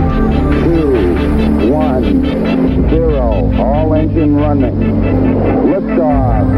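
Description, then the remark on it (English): A loud, continuous rocket-engine roar fills the scene at liftoff, steady throughout, with a voice speaking over the rumbling blast. “3, 2, 1, 0, all engine running. Liftoff, we have a liftoff.”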